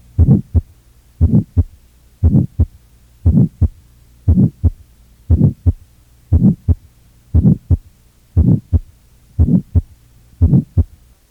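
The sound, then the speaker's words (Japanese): A steady heartbeat through a stethoscope, about one beat per second, each beat a close lub-dub pair with a soft, mid-pitched innocent systolic heart murmur between the sounds. No voices. “無害性雑音は半収縮期制ではなく収縮期全般で終わったり収縮中期のみに現れたりします。”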